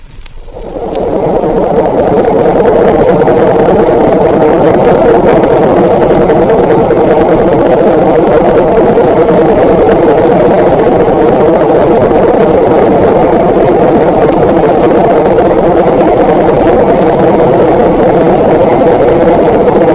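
A steady, dense low drone of a submarine's diesel engines idling, picked up underwater on a hydrophone: a continuous murky rumble with a constant churning hum, fading in quickly at the start and then holding level throughout.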